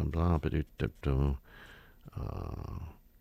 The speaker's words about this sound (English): Okay, does it say that? I'm turning the page, folks.